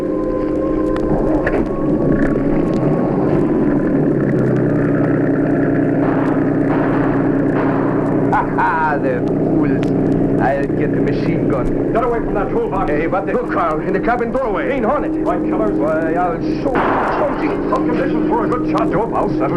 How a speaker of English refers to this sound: Listen, Professor. I hear it. Must be police boats.